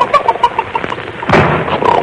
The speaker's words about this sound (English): I slammed the door. I'm sorry I woke you up.